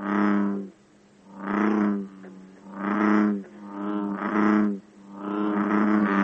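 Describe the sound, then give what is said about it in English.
A bullfrog gives its loud chug-a-rum call, a series of five or so deep, resonant, twangy croaks repeated at a steady pace of roughly one per second, with no talking. “Bullfrogs give a loud chug-a-rum like this.”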